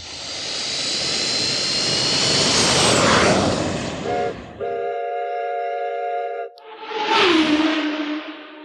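A loud, broad jet engine roar swells for several seconds, gives way to a steady multi-tone horn blast, then ends in a rushing whoosh. No one speaks.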